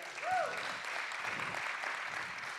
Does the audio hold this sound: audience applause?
yes